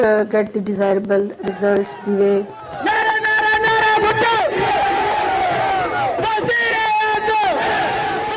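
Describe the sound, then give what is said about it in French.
A crowd of protesters shouts slogans in unison, starting with a few rhythmic bursts of chanting, then swelling into a sustained, loud roar of many voices calling out together. They chant "Life goes on, Benazir is still here!" in the days after Benazir Bhutto's death. “On entend ici des manifestants crier ces derniers jours « La vie continue, Benazir est toujours là !»”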